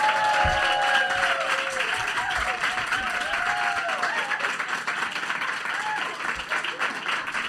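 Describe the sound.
An audience applauds steadily, a dense wash of many hands clapping at a fairly loud, even level, with a few voices calling and whooping over it.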